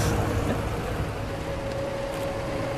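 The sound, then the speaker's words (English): A flat vehicle ferry carrying a truck with giraffes crosses a river, its engine droning steadily, a constant low rumble with a faint whining hum and a broad wash of spray, unchanging in loudness throughout, with no voices. “How often do you see a giraffe on a boat?”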